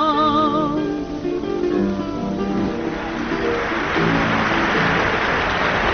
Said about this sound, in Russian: Аплодисменты, которые вы сейчас слышали, прозвучали во время выступления выдающейся исполнительницы старинных русских романсов